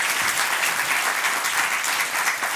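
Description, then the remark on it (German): Steady audience applause, a dense wash of many hands clapping at an even loudness throughout, with no voices rising above it. “Und hier wäre dein Applaus gekommen.”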